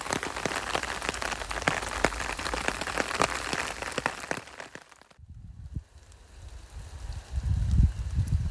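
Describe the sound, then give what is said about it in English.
Rain patters densely on an umbrella overhead, a steady rapid drumming of drops that cuts off abruptly, leaving a quieter rumble of wind and low handling noise. “Maybe my umbrella's in the way, but I daren't take that away because I'll get an absolute drenching.”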